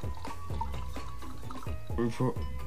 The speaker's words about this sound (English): Okay. Where's... Pour it out.